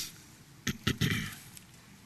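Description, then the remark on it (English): Soft, papery rustling as pages are flipped while listeners turn to Psalms 103: three quick swishes in a row, the last one longer and trailing off, fairly quiet with no talking. “I hear pages turning, so I'll wait a minute.”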